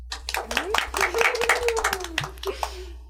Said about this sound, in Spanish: Un aplauso para.